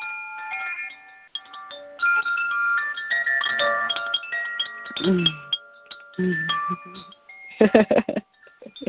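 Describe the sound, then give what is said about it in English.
Koshi water chimes ring in a shimmering, random cascade of bright overlapping tones that sustain and blend, with a few low bursts and a denser clatter of strikes near the end. “I have these beautiful Koshi chimes, and this is the water one.”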